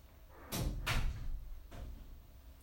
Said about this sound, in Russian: Закрываем дверь.